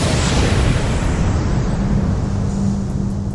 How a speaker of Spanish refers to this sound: Hace 14000 millones de años comenzó el mundo conocido. Fue la gran explosión, cuando reventó el huevo cósmico del que nació todo lo que existe.